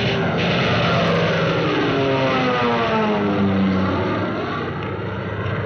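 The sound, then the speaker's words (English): A fighter plane's engine roars loudly and continuously, its droning pitch sliding gradually lower as it passes by, with no voices present. “You wonder you want to cheer when another Nazi plane hits the sea?”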